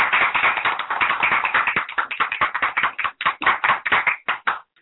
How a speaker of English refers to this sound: Ladies and gentlemen, let's give a hand, a round of applause for our dynamic guest